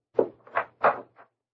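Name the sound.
door opening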